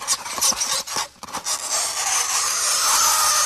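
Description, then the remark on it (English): A harsh, grating scrape of fingernails dragged across a chalkboard, starting with a few short rasping strokes, then settling into one long, continuous, shrill screech. Loud, with no voices. “That's the nails on the chalkboard.”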